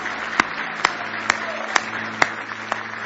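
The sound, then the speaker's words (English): An audience gives a big hand clap of praise in the morning, a steady wash of crowd applause punctuated by sharp, evenly spaced claps about twice a second, fairly loud. “big hand clap of praise this morning.”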